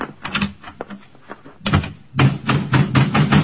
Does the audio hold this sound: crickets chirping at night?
no